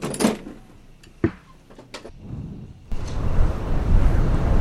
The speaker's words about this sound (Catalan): Oh no! Què passa? S'ha obert la finestra! Anem a veure què passa. Segurament és un ratolí. No, ha estat un cop de vent.